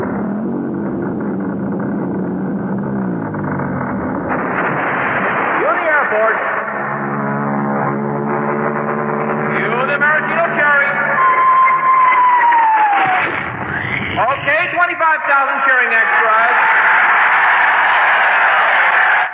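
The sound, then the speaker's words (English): A huge 10-ton maraschino cherry, towed overhead by the Royal Canadian Air Force, drops into whipped cream with a descending whistle over a dense, busy wash of sound, then a crowd of 25,000 extras bursts into loud, sustained cheering and roaring. “Then the Royal Canadian Air Force will fly overhead towing a 10-ton maraschino cherry, which will be dropped into the whipped cream for the cheering of 25,000 extras.”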